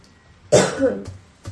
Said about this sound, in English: I have a cough for some reason. Why am I just coughing? You know, you're coughing like you have an itch in your throat. I do. That's what it is. It's just that I have... It's not like there's, phlegm or anything. I just have an itch in my throat.